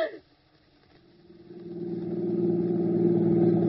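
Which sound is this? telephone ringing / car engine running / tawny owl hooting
car engine running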